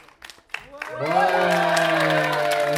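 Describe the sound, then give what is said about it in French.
A few scattered claps build into steady applause welcoming a new arrival, overlaid by a loud, sustained voiced cheer or call that holds a steady pitch until the end. “On l'applaudit bien fort.”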